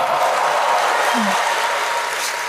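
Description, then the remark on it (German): An audience bursts into sustained applause and cheering to vote for answer A in a quiz, a dense, steady wash of clapping with mixed shouts that holds at full loudness for a couple of seconds and only begins to ease near the end. “Wer glaubt hier, macht mal mit Rufen und Applaus, wer glaubt, es war A, die versteckte Erektion?”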